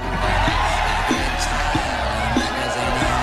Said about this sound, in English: The crowd are ecstatic, waving money and cheering.